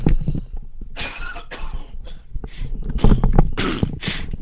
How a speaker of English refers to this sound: Excuse me, I'll take the headset off and have a little cough.